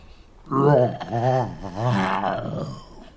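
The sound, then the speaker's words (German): A human voice imitates a bear's loud, drawn-out yawn, with a low growling groan that swells and dips over about two and a half seconds, alone. “Plötzlich gähnte der Bär schrecklich.”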